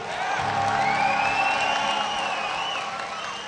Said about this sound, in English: Once again, ladies and gentlemen, boys and girls, welcome to Final Fantasy XI Fan Festival 2007. Can I hear an applause out there?